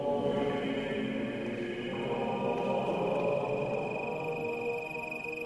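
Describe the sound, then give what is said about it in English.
A steady, dense chorus of crickets chirping in the main street of a completely dark town, with a continuous high trill running throughout at an even level and a low hum beneath it. No one speaks. “At first I think we're in the middle of nowhere, surrounded by crickets.”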